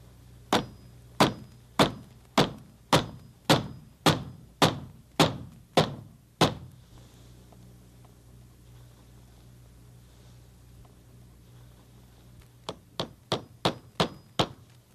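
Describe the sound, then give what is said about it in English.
A hammer drives nails to put up a sign, with a steady run of about ten sharp, ringing blows, falls quiet for several seconds, then resumes with a quicker burst of half a dozen strikes. “Hammer.”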